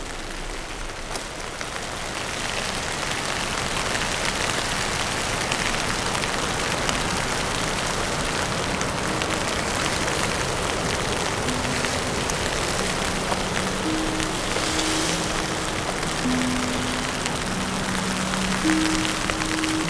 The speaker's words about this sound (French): Dans cette petite averse, type bourrasque, que je vous laisse aider de mon parapluie pour me protéger des rafales du vent et vous faire écouter ces grains de neige.